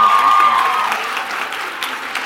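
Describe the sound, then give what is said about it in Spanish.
An audience claps steadily as a student is called up onto the stage, a dense wash of many hands at fairly even loudness that eases off slightly toward the end, with a faint whistle early on and no one speaking. “¡Un aplauso!”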